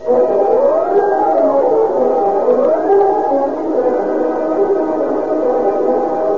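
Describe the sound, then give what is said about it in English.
A police siren wails steadily, its pitch sweeping up and down in slow repeating cycles, loud and continuous with no one talking, as a police car carrying Deputy Sheriff Harry Brewster and Jack Stoutard, investigator for the District Attorney's Office, careens out of the driveway. “And within 30 seconds, a police car bearing Deputy Sheriff Harry Brewster and Jack Stoutard, investigator for the District Attorney's Office, has careened out of the driveway”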